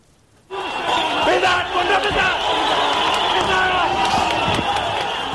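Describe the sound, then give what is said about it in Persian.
A large crowd of spectators at a sports ground in Kabul, Afghanistan, on the night of 12 February 2021, erupts into loud, sustained cheering and shouting for their athlete after a brief quiet moment, a dense roar of many voices that holds steady to the end. “شور و شادی تماشاچان در میدان ورزشی در کابل پایتخت افغانستان.”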